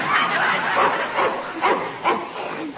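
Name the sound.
dog barking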